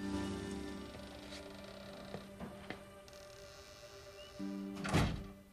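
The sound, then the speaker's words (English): A playhouse door swings shut behind a woman with a single solid thud near the end, preceded by a few soft clicks and rattles over a steady low background hum. “She shuts the door behind her and looks in a large cardboard box.”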